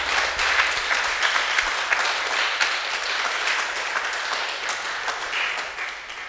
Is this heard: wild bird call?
no